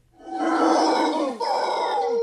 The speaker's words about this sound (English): There are also howler monkeys there, and howler monkeys are incredibly loud.